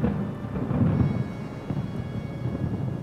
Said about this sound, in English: The world goes dark before your eyes, except for the nearby bright flashes of lightning accompanied with the roaring sound of thunder.